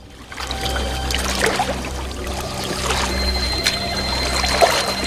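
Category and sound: household object, water sloshing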